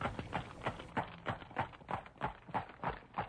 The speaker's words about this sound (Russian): Карета въехала в ворота, скрипя по песку.